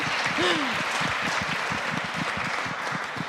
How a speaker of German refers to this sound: Ein Applaus für Amna!